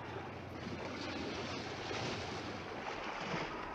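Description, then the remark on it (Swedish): Rough, stormy sea with waves churning and surging in a continuous roar, wind blowing over the water, loud and steady throughout with no voices. “Istället spolas han upp på en klippa och där stannar han tills stormen har lagt sig.”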